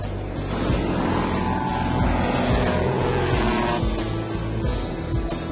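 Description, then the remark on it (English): A float plane's engine drones steadily and loudly, a dense rumbling roar with a constant pitch and no voices, holding through the plane's touchdown on water. “Go to be touching down right now. There's no water over by Collins, right? Yep. That's how you land a float plane.”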